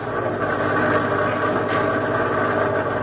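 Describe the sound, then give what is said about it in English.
A bus engine on a bus somewhere in Los Angeles runs with a steady, unbroken low rumble and dense mechanical drone, holding an even loudness throughout with no voices over it. “We now pick up Jack Benny on a bus somewhere in Los Angeles.”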